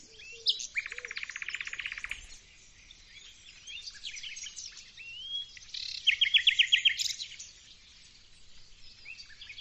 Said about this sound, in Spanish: La verdad es que parece mentira que el ruiseñor tenga tantos matices. Vamos a escucharlo porque realmente es una de las aves más cantoras.